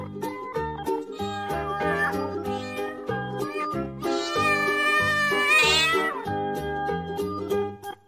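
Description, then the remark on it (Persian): Drawn-out cat meows rise and fall over a bouncy, steady musical accompaniment, with one long, bright meow in the middle standing out loudly above the music. “گربه بازم میندازه به حوض ما نگاهی، یکی به گربه بگه حوض نداره ماهی.”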